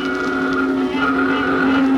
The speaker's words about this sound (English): I was walking down the street. And the traffic was something terrible.